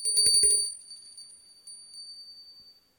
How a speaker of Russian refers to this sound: У дома висит колокольчик. Как позвонишь в него, прозвучит загадка. Послушай.